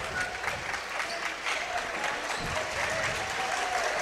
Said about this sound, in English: Thunderbird student section cheering on the defense, looking to pick up the intensity with 8 minutes to go.